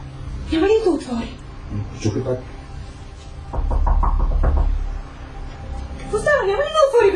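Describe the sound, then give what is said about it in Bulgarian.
A quick run of about six or seven firm knocks on a man's wooden door, evenly spaced, with people talking before and after. “Ще отида да почукам на вратата му.”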